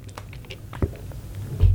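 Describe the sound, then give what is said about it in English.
Someone takes a quick sip of water: soft mouth clicks and a small gulp, with a light knock near the end, and no talking. “So, if we ever have anxiety, excuse me, I need a sip of water.”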